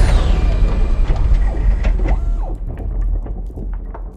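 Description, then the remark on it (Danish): A loud, continuous mechanical drilling effect depicting drilling down into Pluto: whirring and grinding with a falling, motor-like tone at the start, then rattling, clicking textures as the noise eases slightly toward the end. “Sådan, nu borer vi lige ned i Pluto.”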